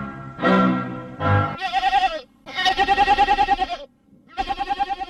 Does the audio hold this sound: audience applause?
no